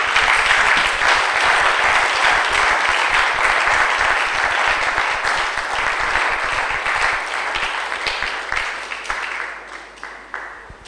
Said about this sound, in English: Can we clap to the glory?